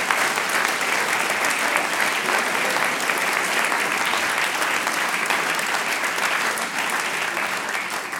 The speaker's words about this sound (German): der Applaus gehört dir.